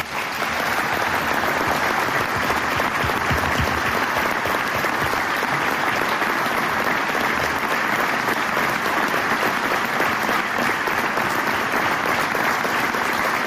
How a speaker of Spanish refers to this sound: Bueno, pues era el aplauso, el discurso emocionado y el aplauso